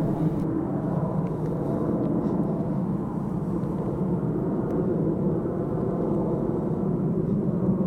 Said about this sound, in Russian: Пока я шел в сторону Птицеграда, неожиданно в небе появился самолет.